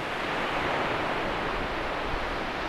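ocean waves

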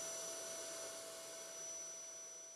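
vacuum cleaner running

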